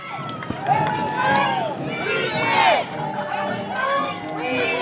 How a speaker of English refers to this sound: So we went out with them that night and walked alongside the Democratic Party float to see how they would be received. And as soon as it started, the float did get booed.